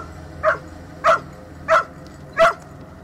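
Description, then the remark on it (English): A dog barks at the water four times in a steady, evenly spaced rhythm, each bark short and fairly loud against a quiet background with no talking. “Started to bark.”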